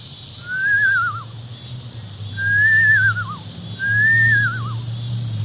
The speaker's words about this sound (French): Ah, voilà le Blue Jay, on l'entend.